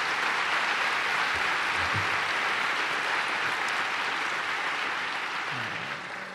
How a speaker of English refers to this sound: Please give Oscar a big round of applause for the great job that he did.